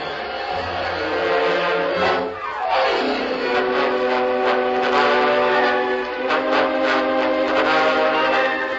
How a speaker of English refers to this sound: Get the bugler on the double. Have him sound boots and saddles.